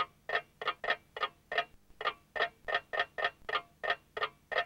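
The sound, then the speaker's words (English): An alarm clock ticks alone in a kitchen in a brisk, even rhythm, each tick crisp and fairly soft, with one brief pause partway through before the steady ticking resumes. “Her alarm clock ticks in the kitchen.”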